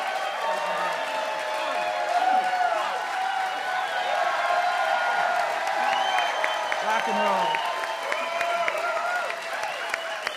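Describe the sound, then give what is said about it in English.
A sold-out concert crowd at the World Cafe Live in Philadelphia applauds and cheers steadily for about ten seconds at a live midday concert, dense clapping mixed with shouts and a few high whistles, while a voice speaks briefly over the noise. “It's a sold out crowd at the World Cafe Live here in Philadelphia for our live midday concert.”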